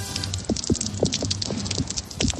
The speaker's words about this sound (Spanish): Aquí, desde las 5:30, 6 de la tarde, no ha dejado prácticamente de llover